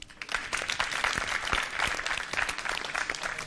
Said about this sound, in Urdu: Team C سے بھی درخواست کروں گی یہاں تشریف لائیں، ان کے استقبال کے لیے بھی تالیاں ہونی چاہیے.